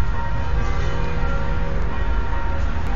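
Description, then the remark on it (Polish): The church bells of the Church of St. Roch, which stands on a hill, ring continuously and loudly, their overlapping tones blending into a dense, sustained peal with no pauses and no one talking. “A to właśnie są dzwony w Świętym Rochu.”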